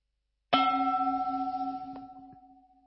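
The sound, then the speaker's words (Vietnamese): A single meditation bell, the second bell of a mindfulness practice, is struck once, producing a clear, resonant tone with steady harmonics that rings out and slowly fades, with a slight pulsing shimmer in its decay. No one speaks. “Khi nghe tiếng chuông thứ hai, các hành giả chúng ta hơi bắc nhẹ vai mình, động nhẹ toàn thể thân thể của mình.”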